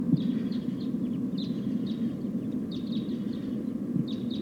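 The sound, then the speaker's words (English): Repeated short, sharp bird call notes come in quick clusters over a steady low rumble as a flock of about 5 or 6 type 2 crossbills calls while flying over. “It sounds like a flock of type 2 crossbills is flying over.”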